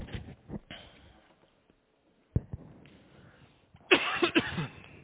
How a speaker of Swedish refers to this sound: Det är nästan förbjudet att hosta i dessa dagar, eller hur?